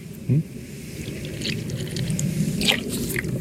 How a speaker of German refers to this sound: Ich brauche noch was trinken. Hier in dieser Welt gibt es noch Wasser.